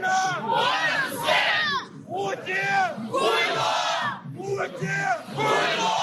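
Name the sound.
street protest crowd shouting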